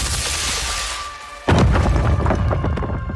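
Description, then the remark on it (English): A steady hiss, then a sudden deafening thunder-like crack bursts out in a chamber, followed by a heavy rumbling roar with scattered crackles and rattles as the chamber rocks, the roof fractures, wall plaster shatters, and dust and stones fall from the ceiling. “There was a deafening crack like thunder and the chamber rocked.”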